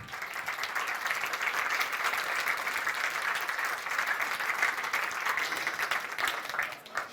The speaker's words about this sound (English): Please give a very big applause